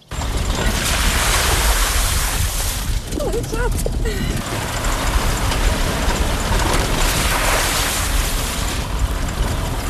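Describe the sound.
An old off-road work car drives to the Siadek forestry district, compartment 159, its engine and rough road noise forming a loud, steady rumble for the whole stretch, with a faint snatch of voice midway.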